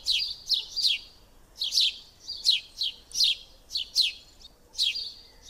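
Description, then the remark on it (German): A house sparrow chirps repeatedly in quick, bright bursts, about a dozen short notes in an uneven rhythm, clear against a quiet background with no voices. “Achtung, gut zuhören, das ist der Spatz.”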